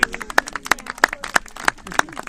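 At an outdoor dune sing-along, parents clap along in a steady rhythm while singing and whistling, crisp hand claps landing about three times a second, fairly loud, with faint voices or singing murmuring underneath.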